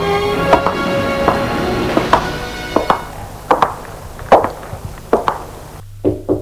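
Knocking on a wooden office door: about eight sharp, hollow raps at a slow, steady pace, each loud and brief, with a faint humming tone beneath the first few that fades away.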